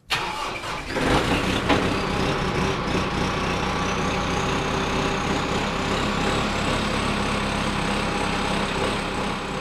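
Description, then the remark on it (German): An orange tractor engine cranks and catches, then runs steadily at a loud idle with a constant rumbling drone and a faint whine riding above it; no one speaks. “Er hat sich selber einen orangefarbigen Traktor geschenkt und noch ein Stückchen Wald dazu.”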